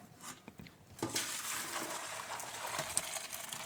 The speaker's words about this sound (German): Die Nudeln sind gut. Sehr gut. Ich gieße die mal ab. Naja, sie waren ja eben schon fast gut.